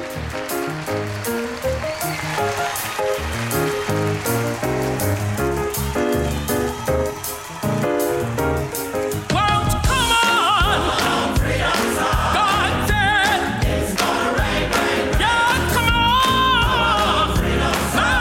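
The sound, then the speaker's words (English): A recorded song plays loudly and steadily with a driving beat and full instrumentation, growing denser about halfway through as sustained melodic lines enter. No one talks over it. “if you could play a minute of this song”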